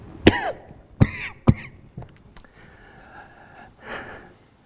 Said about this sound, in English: Look to Jesus and receive his gifts. And one final cough, and then I'm done.